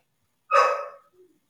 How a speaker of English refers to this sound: And then suddenly a dog.